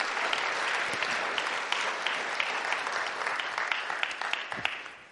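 A crowd claps steadily for about five seconds, a dense wash of many hands with a few sharper individual claps standing out, fairly close and consistent in volume throughout.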